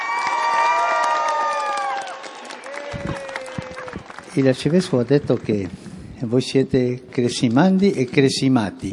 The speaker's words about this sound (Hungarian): Fél órás várakozások után érkezett meg a pápa hozzájuk, és rögtön bocsánatot kért a késésért, amire lelkes tapsal válaszoltak.